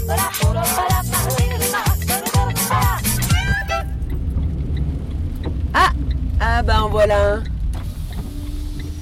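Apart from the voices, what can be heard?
small car driving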